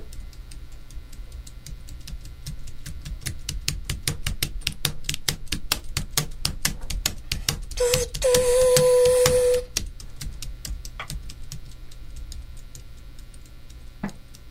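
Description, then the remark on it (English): Rapid, steady clicks from a keyboard used as a sound effect device to imitate a train chug along like train wheels on a track, broken by a sustained whistle-like tone for a couple of seconds, then a few scattered clicks. No one speaks. “Let's see what a keyboard sounds like imitating a train.”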